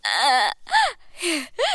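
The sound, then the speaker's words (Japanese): A person cries and wails loudly, four drawn-out sobbing bursts with rising and falling pitch, separated by brief gasping pauses and no talking. “まさかまた泣いちゃうなんて、ちょっと困ったわね。”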